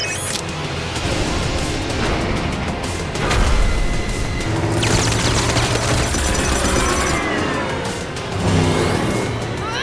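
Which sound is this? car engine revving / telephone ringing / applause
car engine revving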